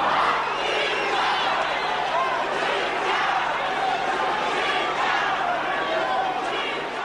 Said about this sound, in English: As you can hear, his address was repeatedly interrupted by jeering and chanting by the crowd, demanding that first President Robert Mugabe must step down.